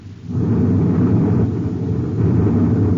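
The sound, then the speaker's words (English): A cosmic torpedo blast fired from a pursuing spaceship erupts after a brief quiet moment, a loud, deep rumbling roar that holds steady for several seconds, heavy, with no voices. “He's firing cosmic torpedoes.”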